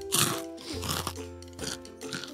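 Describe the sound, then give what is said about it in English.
Loud crunching of crispy nacho cheese chips being chewed, a few rapid bites in quick succession with wet mastication between them and no one talking. “I couldn't hear you over my crunches.”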